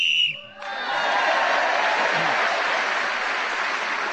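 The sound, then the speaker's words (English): A sharp referee's whistle sounds in one short, shrill blast to end a round of the radio panel game Just a Minute, then an audience immediately breaks into loud, sustained applause that fills the rest of the moment. “Whoever is speaking in this game when the whistle is blown gains an extra point on this occasion with Sheila Hancock.”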